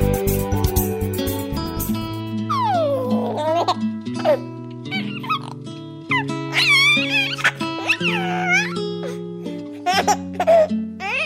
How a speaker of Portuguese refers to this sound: Pelo telefone, se escuta o chorinho da neném.